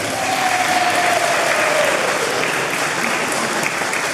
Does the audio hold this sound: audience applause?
yes